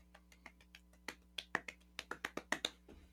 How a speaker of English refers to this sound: And then, ta-da! You're now the Valkyrie. Well done. Claps. Big claps all around.